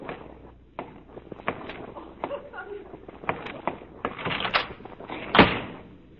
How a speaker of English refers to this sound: I'm going to walk over to that window and look out of it. A moment later, I'm going to turn around, and you will have gone quietly out of the door.